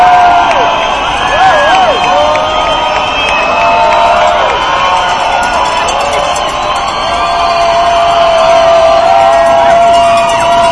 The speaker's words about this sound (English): Just people yelling, si se puede, si se puede.